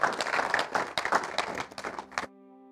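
An audience at a church service claps together for a pastor in a dense, uneven burst of applause for about two seconds. It cuts off abruptly, leaving a steady low sustained tone.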